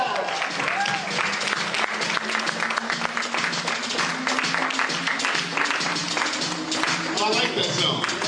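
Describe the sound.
Sustained audience applause, dense rapid clapping at a steady loud level for several seconds, with murmuring voices and a low held tone beneath the crowd noise.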